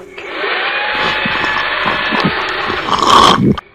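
A Henry vacuum cleaner sucks up wasps, running with a steady, loud motor roar and a high whine, surging briefly louder near the end before cutting off abruptly.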